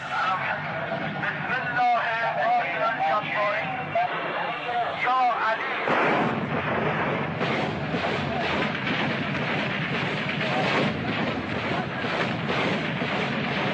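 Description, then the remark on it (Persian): A few seconds of voices give way to an artillery barrage of the Quds Headquarters firing on Iraqi forces at night at the start of Operation Beit ol-Moqaddas near Khorramshahr: a dense, loud wall of booming blasts firing in rapid, overlapping succession, rumbling on steadily to the end. “آتش توپخانه قرارگاه قدس خواب را از سر عراقی ها پراند.”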